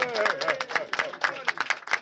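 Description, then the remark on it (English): An audience cheers and claps for Gordon Baum, CEO of the Council of Conservative Citizens, with a steady patter of hand claps under a mix of raised, shouting voices, fairly loud throughout the short burst. “And I see our fearless leader in the back, Gordon Baum, who has not yet made it to the show, but he's back there, the CEO of the Council of Conservative Citizens, not listening, looking away, but let's cheer for Gordon nonetheless, for Gordon Baum!”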